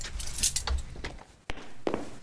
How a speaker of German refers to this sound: Doch genau in diesem Moment stößt Anna die schwere Eisentür zu und dreht den Schlüssel um.